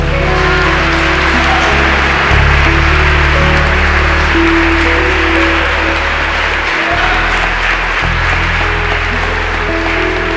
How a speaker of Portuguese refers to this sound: Aplauda o Senhor.